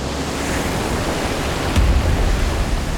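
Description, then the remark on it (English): Steady ocean wash fills the air as a ship cuts across the cold blue ocean, crashing through wave after wave, with a heavier low thump of a wave striking the hull partway through and rushing surf continuing loud afterward. No voices. “Their ship cut across the cold blue ocean, crashing through wave after wave.”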